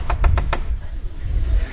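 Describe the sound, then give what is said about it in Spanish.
Four quick, sharp knocks on a door by a young man, in a fast cluster at the start, followed by a stretch of low background rumble with no further knocking. “Y un poco después de que ella dijo eso, la puerta.”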